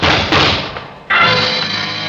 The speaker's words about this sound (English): Shots came from behind my office door.